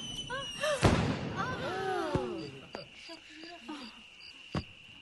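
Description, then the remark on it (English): Fireworks pop and bang a few times at scattered intervals as a group of children watch, one loud burst followed by smaller cracks, over a steady chorus of crickets, with faint voices murmuring in the background. “So they're looking, the kids are all together and they're looking at fireworks.”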